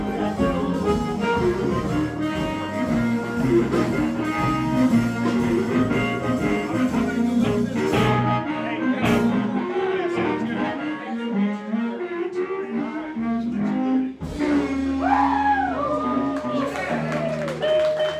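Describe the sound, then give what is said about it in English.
A blues harp (harmonica) wails and honks over a backing band, with loud, reedy sustained notes and sliding, bent pitches that swoop near the end, playing continuously throughout. “For decades, this was the wailing, honking sound that harp players everywhere wanted to emulate, and many still do.”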